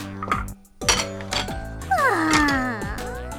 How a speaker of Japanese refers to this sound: はあ、まったく、片っ端から皿を割っちゃって。簡単な仕事もできなくて。